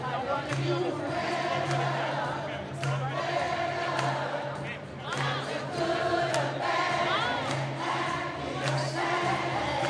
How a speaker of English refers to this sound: To that end, thousands of them broke out in song in West Palm Beach at yesterday's final event as they waited for the president to take the stage.